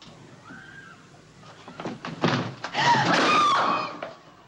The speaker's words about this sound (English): Then, as she goes to open it, the whole door falls inwards.